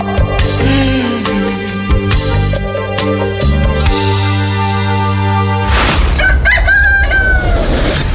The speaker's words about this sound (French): Le Chant du Coq sur LN Radio, tous les jours entre 4h et 6h.